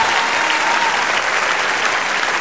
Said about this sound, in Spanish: Dale un aplauso, sí, celébralo.